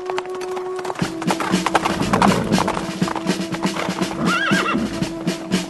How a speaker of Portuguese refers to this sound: Um guarda que estava na torre de vigia de Jezreel viu Jeú e os seus soldados chegando e gritou: Ei, veja alguns homens chegando a cavalo.